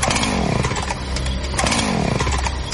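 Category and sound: tool, chainsaw revving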